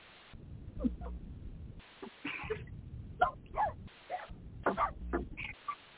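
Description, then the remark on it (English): A female dog, Jewel, barks in short, sharp bursts, six or so yaps at an uneven rhythm over several seconds, fairly loud against a low background hum, with no one speaking. “That dog is going to eat you alive, girl.”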